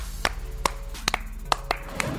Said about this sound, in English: Clap it up. Clap it up.